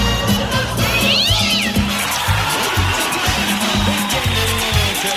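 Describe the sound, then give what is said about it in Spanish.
A cat meows with rising and falling cries over a steady busy background of low rhythmic pulses and broad noise that never drops out. “voy a mirar para el lado de la cama, voy a ver gatos. Voy a mirar para el otro lado, gatos.”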